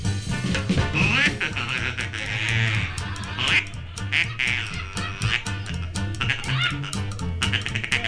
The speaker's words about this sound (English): Mama don't allow, play that ducking call any old how. Mama don't allow no duck call playing in here.